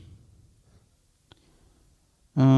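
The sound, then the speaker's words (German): A single short computer mouse click in near silence, soft, followed by a person abruptly starting to speak loudly at the very end; someone clicking on an entry in an online club stream page. “Und dann klicke ich da drauf.”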